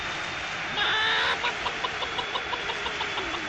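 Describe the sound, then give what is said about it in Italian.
A hen gives a drawn-out squawk, then a quick, steady run of repeated clucks, heard over a constant engine-like rumble. “Passata la gallina, ladies and gentlemen, un roccaccio!”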